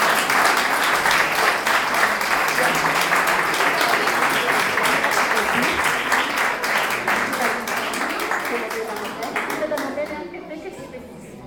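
Sustained audience applause for the first-place winner of a primary school drawing competition, a dense crowd of clapping hands with cheers mixed in, loud and steady before tapering off near the end.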